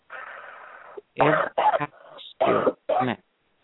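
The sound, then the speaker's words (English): A long, deep inhale gives way to four or five loud, forceful coughs and throat-clearing bursts, each separated by brief pauses. “Take a deep breath and just cough all of them hiding out now.”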